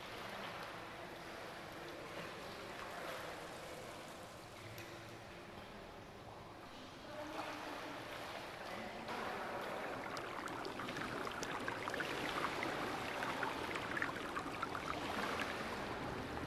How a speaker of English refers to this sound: On the other side of the shower, there is a great circular room where many ornate marble pools are full of bubbling, steaming water.